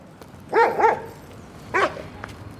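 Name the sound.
dogs barking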